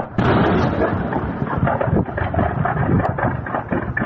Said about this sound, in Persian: صدای انفجارهای پیاپی زاغه مهمات لشکر 12 ارتش سوریه در حومه استان درعا پس از حمله هوای اسرائیل.